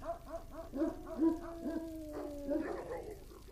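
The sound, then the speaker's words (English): Several puppies bark and yip in quick repeated bursts, overlapping one another, with a drawn-out whining tone running beneath the barks for a couple of seconds. “Don't worry about those dogs, they don't bite.”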